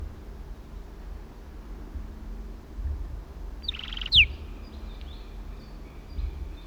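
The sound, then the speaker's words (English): Kelp gulls call in the background: one brief, harsh burst partway through, followed by a few faint, thin calls, all over a steady low hiss with no talking. “Kelp gulls in the background.”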